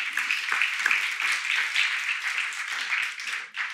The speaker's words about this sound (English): And that weekend in 2020, you can clap, sure.